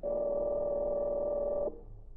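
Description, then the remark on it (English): A telephone dialing the number of a hotel room: a loud, steady electronic line tone holds for under two seconds, then cuts off abruptly, leaving faint low hum. No one speaks. “I have the number of Fenders' hotel room. Perhaps I can catch him there now. Why you phone him?”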